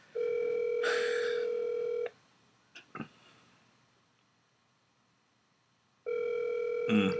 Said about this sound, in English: Nobody's gonna answer the phone tonight.